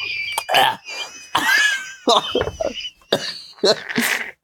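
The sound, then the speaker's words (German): Someone coughs and sputters after a drink went down the wrong pipe, with several harsh, irregular bursts broken by wheezy, high gasping breaths. It's fairly loud, and no clear words are spoken. “Mein Fass ist die falsche Röhre gekriegt.”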